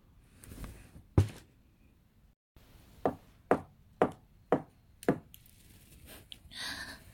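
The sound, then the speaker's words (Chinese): Five sharp knocks on a restroom stall door as a prearranged signal, in a quick, even rhythm and clear, preceded by a single isolated thump and followed by faint rustling. “5下敲门声，我知道那个帅哥来了，赶紧打开了门。”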